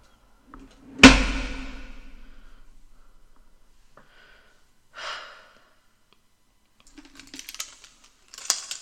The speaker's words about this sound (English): Now let me lock the door again and leave us alone.